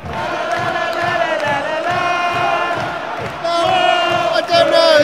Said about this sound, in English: Right. I'm gonna do some clapping and go whoa, and then I'll report back. Wish me luck.